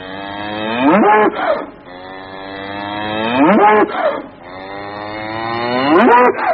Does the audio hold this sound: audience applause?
no